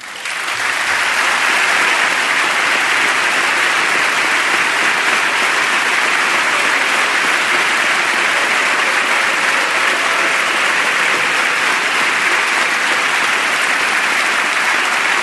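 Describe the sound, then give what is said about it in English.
Loud, sustained applause from many chamber members rising to applaud a reference in a speech, dense steady clapping that holds at full strength for the whole fifteen seconds without any voices. “Many members rising to applaud that reference.”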